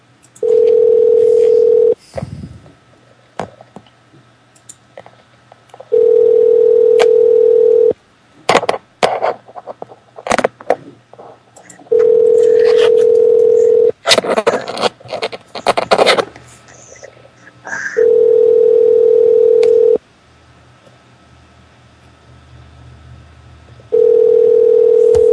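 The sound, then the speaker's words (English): A steady telephone tone sounds in long bursts with pauses, alternating with clicky, noisy stretches of handset fumbling and key presses as someone redials after a call got disconnected; no one speaks. “You can call back and say we got disconnected again.”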